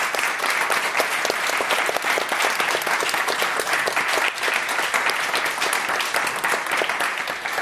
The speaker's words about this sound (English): Well, let's give a round of applause to all of our panelists.